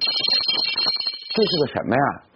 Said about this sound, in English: Picking up a metal bell shaped like a donut, he explains that Beijing didn't used to have so many big hospitals, so doctors would walk the streets ringing the bell to signal that they were available.